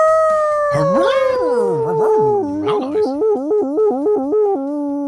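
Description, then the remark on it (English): A person's voice imitates a long, drawn-out dog howl, its pitch swooping up and down before breaking into a series of rhythmic, yodel-like warbles, loud. “Hey, man, that was a proper dog howl, man.”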